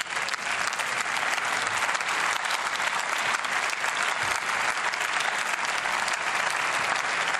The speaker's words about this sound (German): Danke für den Applaus aus der CDU.